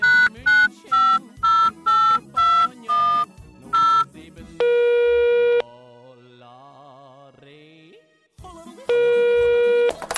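A telephone number is dialed as a quick run of about seven short beeps at shifting pitches, followed by loud, steady electronic tones of the busy signal, broken by a quieter wavering stretch.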